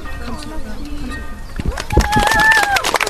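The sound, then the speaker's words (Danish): Low, soft cooing from a dove, then a burst of fluttering wingbeats as the last dove is let go to fly up, with people's voices and a bright rising tone in the background. “Skal vi sende vores sidste duer op?”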